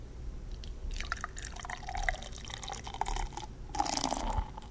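A frosty, unlabeled bottle of black IPA called Negra Noche, a small-batch beer from the Busted Sandal brewery, is poured into two glasses with a steady liquid splash and fizzing, trickling textures, a brief pause between the two pours, no voices.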